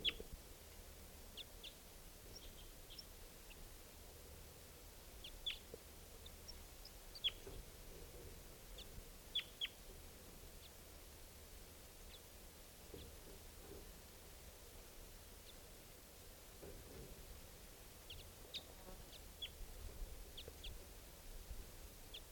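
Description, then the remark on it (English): Scattered short, high wild bird chirps and calls, repeating irregularly over a steady hiss of outdoor background noise, with no one speaking. “Wild birds at I don't know which one.”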